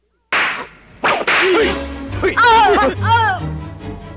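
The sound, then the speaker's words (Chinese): Several loud, sharp whip cracks lash out in quick succession as an Egyptian overseer whips a hungry worker, followed by the person crying out and groaning under the blows. “我请你吃鞭子，看我打死你。”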